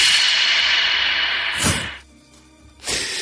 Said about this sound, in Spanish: Aquí no hay absorción, excepto nosotros que estamos ahora mismo aquí dentro. ¿Ves cómo suena? Es como si tuviera eco todo lo que dices. Se genera ese efecto contrario. A ver cómo suena en esa cámara la claqueta.